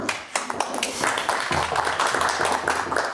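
A crowd applauds steadily, many overlapping hand claps forming a dense, continuous patter at moderate loudness, with a faint low murmur beneath in the second half.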